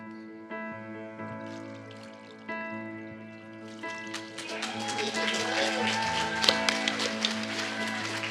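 water splashing

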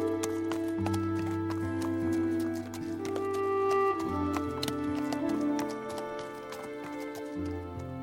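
horse hooves clip-clopping

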